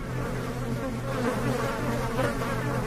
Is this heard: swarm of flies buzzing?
yes